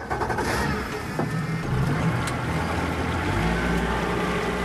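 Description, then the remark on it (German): A speedboat's motor roars steadily on the Xingu River in Amazonia early in the morning, with no other boat on the river. Its low drone deepens and strengthens toward the end as the boat gathers speed, with rushing water noise throughout and no voices. “Kein anderes Boot ist auf dem Fluss unterwegs, als das Schnellboot Fahrt aufnimmt.”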